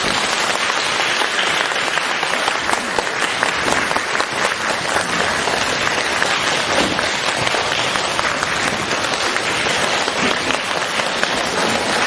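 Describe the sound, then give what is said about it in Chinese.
A large audience at a Buddhist gathering applauds warmly and steadily for about twelve seconds, welcoming Lu Junhong to give a talk, a dense, even wash of many hands clapping at constant loudness, with no voices rising above it. “现在尊敬的卢台长将为我们慈悲开示，让我们用最热烈的掌声恭请我们尊敬的卢军红台长。”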